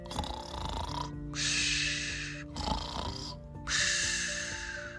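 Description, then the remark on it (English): A magical Kermode bear named Benjamin snoring while fast asleep: two long, loud rasping breaths separated by a short pause, steady, with a soft sustained musical tone humming underneath. “That was the snoring sound of a magical Kermode bear.”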